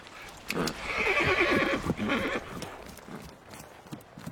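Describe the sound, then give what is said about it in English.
A horse, pricked on purpose by its rider, gives a loud whinny lasting about two seconds, its shrill cry wavering before trailing off into quieter snorts and faint hoof sounds. “And therefore have I pricked the horse on purpose, because I would not view the massacre.”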